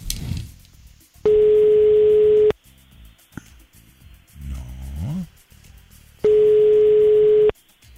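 A telephone ringing tone sounds twice, each a loud, steady electronic beep lasting over a second with a long gap between, while low rumbling noises fill the pause.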